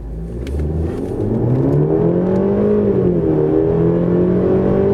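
A petrol car engine kicks in as the driver presses the accelerator, and the car accelerates toward 80 km/h, its steady hum climbing in pitch as it revs up, loud, with no talking over it. The car has a start button and a G-Tronic automatic gearbox.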